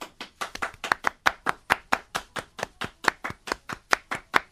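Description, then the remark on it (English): Crisp hand claps in a pop song, in a quick, steady rhythm, about twenty sharp hits in under five seconds, each fairly loud and evenly spaced, with no voices. “I like the hand claps. More hand claps in songs, guys.”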